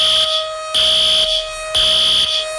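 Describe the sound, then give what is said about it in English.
A loud, shrill alarm blares in repeated bursts about once a second over a steady electronic tone, insistent, with no voices. “I have nothing to say but to sound the alarm.”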